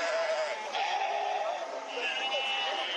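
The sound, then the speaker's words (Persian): Several sheep bleat over a dense, continuous crowd murmur, the wavering calls overlapping in the busy livestock market of Kunduz, where herders bring hundreds of cattle, sheep and goats for sale, with voices talking throughout. “اینجا بازار فروش مواشی در قندوز است، مکانی که مالداران این ولایت صدها رس، گاو، گوسفند و بز را برای فروش از ولسوالی‌های دور و نزدیک به مرکز این ولایت آورده اند.”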